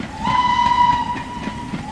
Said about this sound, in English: Drop in a choo-choo train sound right here.